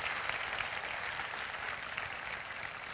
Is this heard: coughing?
no